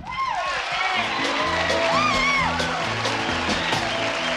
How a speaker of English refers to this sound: Give a great big round of applause to his first appearance on the Great Van Opera,